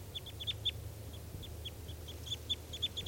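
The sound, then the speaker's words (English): Three crossbills call with quick, high chirps in an irregular string, some in short clusters, as they head toward a net, over a steady low rumble. No one speaks. “Here come the three birds, and they're going towards the net.”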